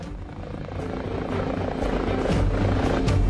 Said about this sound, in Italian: Questa che vedete qui giù è la pista di atterraggio degli elicotteri. È appena atterrata la presidentessa della Commissione europea, Ursula von der Leyen.